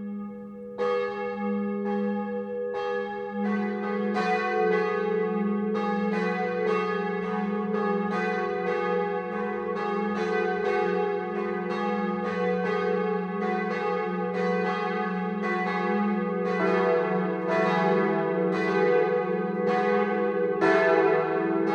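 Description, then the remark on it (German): Church bells in Westheim, Swabia, Germany, ring out continuously for the 12 o'clock midday chime, several bells overlapping in a steady, full peal with rich sustained tones and rhythmic strikes, fairly loud, with no voices. “Das Mittagsläuten kommt heute aus dem schwäbischen Westheim.”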